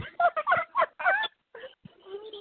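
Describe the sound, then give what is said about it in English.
A pet bird squeaks in a rapid run of shrill, chattering calls, then pauses and gives a few softer, squeakier cries, with no one talking. “Sorry, do you hear that squeaking? You know what? That's my bird.”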